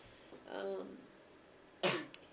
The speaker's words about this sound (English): Drink some more water. Yeah, I don't know, this cough of hers.